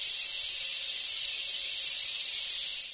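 A cicada's steady, high-pitched buzzing drone fills the whole recording at constant loudness, sustained and unbroken, with a slight shimmering pulse and no voices.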